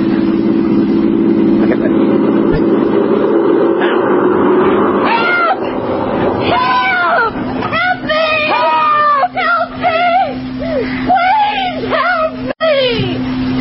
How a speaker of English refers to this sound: Listen. Here comes another car. When it's right above us, let's try yelling all together as loud as we can.